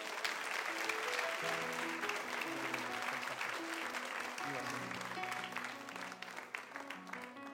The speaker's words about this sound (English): So if the parents and their babies want to come forward, we'll have you come down here to the front. Give them a big hand clap as they do that.